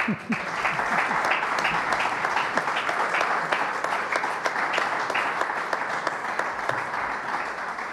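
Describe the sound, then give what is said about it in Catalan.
An audience claps steadily throughout during the Premis Serveis Mèdics Penedès award presentation at a roller hockey event, a dense crackle of many hands at even loudness with no pause, some brief murmurs of voices mixed in. “Podeu aplaudir, eh?”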